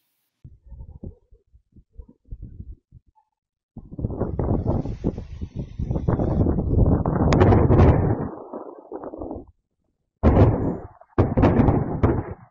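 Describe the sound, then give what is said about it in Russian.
Deep rumbling explosions of an Oreshnik missile strike on Lviv Oblast, Ukraine: faint scattered thuds at first, then a long, loud roaring barrage of overlapping blasts, a short silence, and two more heavy bursts of booming rumble. “Ну, в общем, он страшно громыхает и сверкает”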